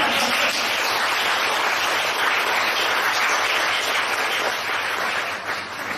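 An audience breaks into sustained applause, a dense wash of many hands clapping at an even loudness for about six seconds before easing slightly at the end, with no talking over it.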